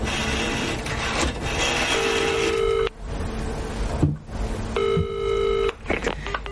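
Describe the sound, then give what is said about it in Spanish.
A woman inside a phone booth lifts the receiver and dials a number on the payphone, with two long, steady electronic tones about a second each, separated by a pause, over a constant background hiss and faint street noise. “Marca un número.”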